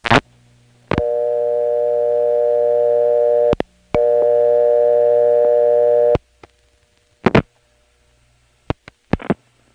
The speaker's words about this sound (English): There is also a number 1 ESS in the downtown building. This one, of course, has real modern tones.